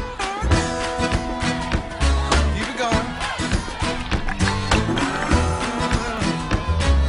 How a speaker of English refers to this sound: You guys stomp your feet like that? Now let's clap together. That's it.